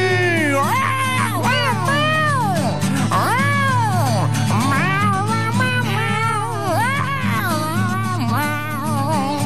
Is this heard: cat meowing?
yes